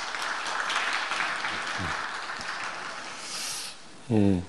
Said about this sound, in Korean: 어린이집을 우리에게 허락하신 하나님께 감사의 박수를 하겠습니다.